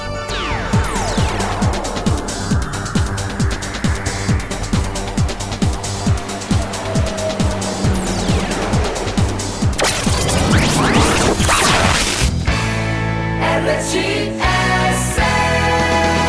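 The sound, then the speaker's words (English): A radio traffic-report jingle: loud, upbeat music over a steady percussive beat, with whooshing sweeps and crash-like sound effects near the end. No one speaks. “Traffic theme.”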